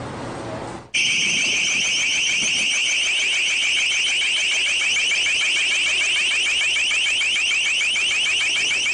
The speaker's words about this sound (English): This is a sound cannon being deployed against protesters at the G20 economic meeting by Pittsburgh police.